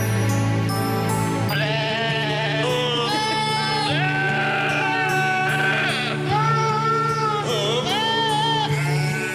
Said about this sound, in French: Écoute, c'est un album de Noël fait par des chèvres. Par des chèvres? Ouais, je vous laisse écouter Silent Night, version chèvre.